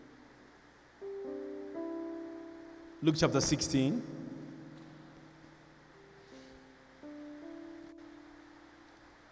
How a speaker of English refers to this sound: Wow. It's raining. Beautiful.